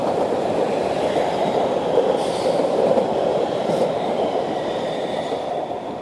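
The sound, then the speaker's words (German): An S-Bahn commuter train rumbles past, a steady, dense roar of wheels on rails filling the whole six seconds, with faint high squeals and clatter riding on top and no voices. “Die dritte Meldung sagt, hier kommt eine S-Bahn.”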